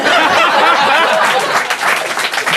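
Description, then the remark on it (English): A live studio audience applauds, a dense, steady wash of many hands clapping at once, loud and unbroken for a couple of seconds, with a few faint chuckles mixed in. “And this is what a live studio audience applauding sounds like.”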